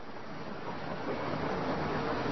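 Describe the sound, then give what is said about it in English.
Steady, dense industrial roar from coal preparation plant machinery, like coal pouring off a conveyor belt, a continuous rushing din at constant loudness with no voices. “That's a coal prep plant noise.”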